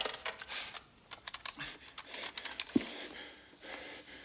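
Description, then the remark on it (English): A phone being dialed: a quick, uneven series of small plastic clicks and taps, fairly quiet, with a faint handling rustle and no voices. “He picks up the phone again and dials.”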